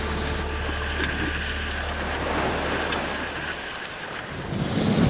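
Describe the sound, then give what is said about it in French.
Steady wind rushes over a sailboat alongside a low rumble, with water and rigging noise mixed in; the gusts swell louder toward the end as the wind returns after four days without wind. No one speaks. “Là, c'est vraiment le début du retour du vent après 4 jours.”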